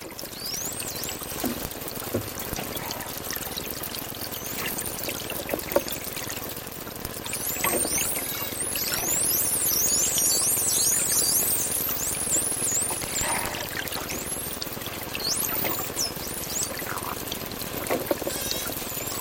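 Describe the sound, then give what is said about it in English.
A slowed-down underwater recording from a data buoy, full of swooping, rising and falling whistles, densest in the middle, over a steady watery hiss with scattered clicks and pops and no talking. “You've actually slowed down that recording so we can hear the whistles more clearly.”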